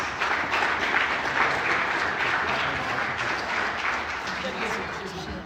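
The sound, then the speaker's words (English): A crowd of people claps steadily, producing a dense, sustained wash of applause that holds at an even, fairly loud level throughout without fading away. “Please hold your applause until I read all the names.”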